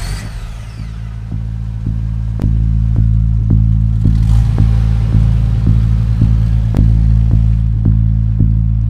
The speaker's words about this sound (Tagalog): Dahil sa takot, mabilis siyang tumakbo papunta sa kanyang pulang kotse. Binuksan niya ang driver's door, ipinasok ang susi at pinaharurot agad ang kanyang sasakyan.